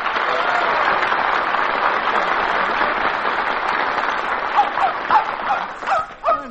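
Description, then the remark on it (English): Steady applause fills most of the stretch, then a dog, part spaniel and part terrier, lets out several short, high-pitched yips and barks over the fading clapping in the last couple of seconds. “Isn't it a beautiful dog, Harry? He's part spaniel and part terrier.”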